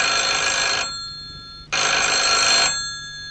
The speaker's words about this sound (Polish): Telefon. Przepraszam was na chwilę.